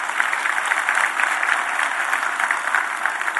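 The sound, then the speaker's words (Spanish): An audience applauds the Lord steadily, a dense wash of many hands clapping at an even level throughout, with no voices rising above it. “Le das un aplauso al Señor, que Él se lo merece.”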